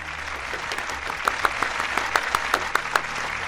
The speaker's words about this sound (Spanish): Aplauso, por favor.